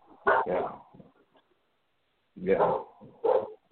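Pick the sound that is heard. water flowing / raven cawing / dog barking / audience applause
dog barking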